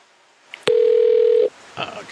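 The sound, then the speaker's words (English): A single steady telephone ringing tone sounds once for just under a second, clear and fairly loud over a quiet line, as a phone call is transferred to the tools department, followed by faint rustling noise. “Let me transfer you to the tools department.”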